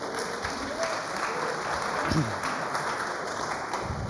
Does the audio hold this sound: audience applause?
yes